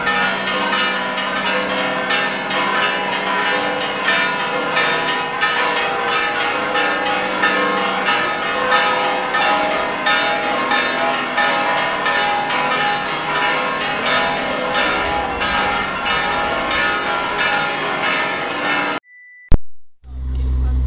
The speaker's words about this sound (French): Les carillons sonnent, et, très dissonant quand même. Hein. Faut pas dire que c'est très joli.